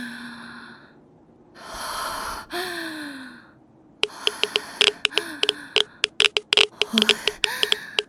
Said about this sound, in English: What's that sound? It's my Pip-Boy ticking. Radiation?